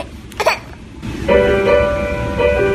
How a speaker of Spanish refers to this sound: Pero el padre, que es un tío ya muy observador, se ha dado cuenta que hay una sintonía de una serie de televisión que según la pone, el niño se le pasa el llanto. Mira, escucha.